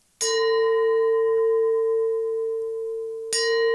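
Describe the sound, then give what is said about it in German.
A gong is struck twice, about three seconds apart. Each hit gives a sharp, bright attack, and the first leaves a steady, mid-pitched ringing tone that hangs on until the second strike. “Wir gongen nochmal. Und da wir heute sensationell unseren ersten Gast haben, gongen wir zweimal.”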